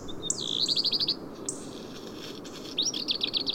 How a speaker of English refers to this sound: Look now a little bit further down, where there's also a small community of birds on that same cliff. Although they don't sing much in winter, some trills resound in the silence of these summits.